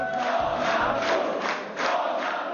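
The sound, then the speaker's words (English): A large crowd of Civic Coalition supporters in Poland chants Donald Tusk's name in unison as exit polls are announced, a dense roar of many voices rising and falling in steady rhythmic swells, loud and continuous throughout. “Crowds of supporters chanted his name, and even though his party looks only to have placed second in the vote, Mr.”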